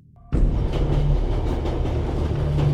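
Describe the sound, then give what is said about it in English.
A train carrying Klaus Fuchs on a cross-continental journey from New York to New Mexico rumbles loudly along the tracks after a sudden start, its steady low roar carrying faint rhythmic clatter throughout, with no voices. “What none of them know is that Klaus Fuchs has embarked on a cross-continental train journey from New York to New Mexico.”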